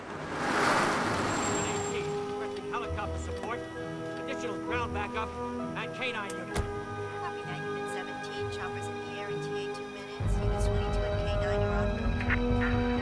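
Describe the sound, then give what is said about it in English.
A car engine rumbles low as an unmarked car with flashing blue lights pulls up next to stationary police cars and settles to a stop, with steady humming tones ringing over it and a deeper rumble rising near the end. “An unmarked car with flashing blue lights pulls up next to the stationary police cars.”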